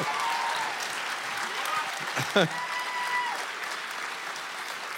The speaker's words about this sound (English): Just a clap for that, yeah.